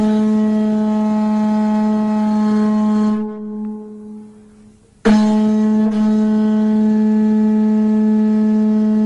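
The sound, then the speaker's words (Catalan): A loud, deep horn-like drone of ancient Sumerian music holds a steady, buzzing tone, fades out briefly partway through, then snaps back in at full strength and continues without any talking. “Això no és un vaixell que marxa de la porta, eh? És música sumèria, això, eh?”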